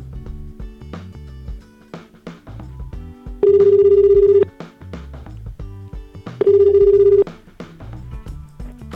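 A telephone ringback tone purrs twice, each ring about a second long with a pause between, clear and steady over soft background music with no one speaking.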